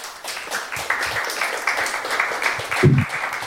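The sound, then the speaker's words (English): An audience applauding a woman after she answered questions, a dense, steady patter of many hands clapping at once, fairly loud and continuous, with a brief low thump near the end. “Big applause for the lady.”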